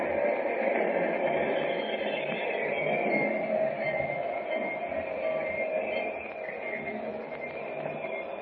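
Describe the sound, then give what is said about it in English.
A steady, dense train rumble with metallic hiss and squeal that eases slightly toward the end as the train slows and pulls into a station. No one speaks. “There. She's in the station.”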